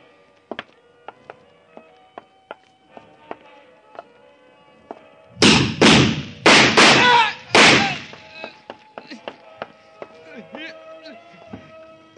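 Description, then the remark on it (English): A door is kicked open: four heavy, loud booming bangs in quick, uneven succession, ringing briefly, after a stretch of faint clicks and a quiet tonal hum. “I'll kick it open.”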